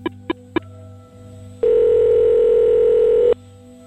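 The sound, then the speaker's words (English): Three quick clicks, then a single loud, steady ringback tone of about two seconds, heard through a phone line as an outgoing call to a number in Miami rings. No one speaks. “But after a quick brush through an online phone book, I found an Edward Putz living in Miami and gave him a call.”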